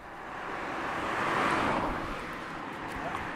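A car's engine and tire noise swells and then eases off as the vehicle, the third or fourth car to pass, slows and stops to give a hitchhiker a lift, with a steady wind-like rush throughout and no clear voices.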